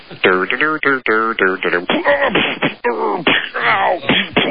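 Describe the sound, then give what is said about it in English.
A man, speaking over the telephone, vocally imitates a man falling down stairs as a sound effect: a loud, rapid string of choppy grunts, yelps and groaning cries that lasts several seconds, with a thin, telephone-like tone. “How about a man falling down the stairs? That's a cool effect.”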